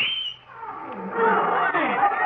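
A loud, dense chorus of wild animal roars and calls from a parade of lions, tigers, elephants and camels, overlapping in a continuous swell after a brief rising cry.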